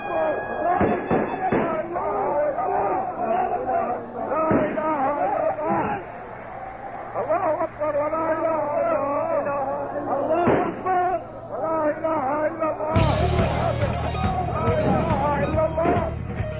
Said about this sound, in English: A tape recorded inside the mosque during the raid reveals over 20 gunshots at the crowd of unarmed, panicking worshippers.